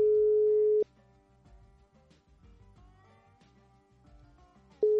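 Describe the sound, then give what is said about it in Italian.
A phone ringback tone on an outgoing call: a steady, fairly loud single-pitch beep, a long pause, then the beep starting again, with quieter music playing underneath. “Squilla. Squilla, squilla.”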